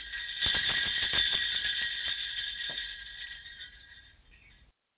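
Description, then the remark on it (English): Sleigh bells in a Christmas advertising jingle for author Sandy Lender's novels jingle in a bright, shimmering cluster, shaken in quick bursts at first, then ringing on more steadily and fading away over several seconds, with no voices. “Even has the sleigh bells, folks.”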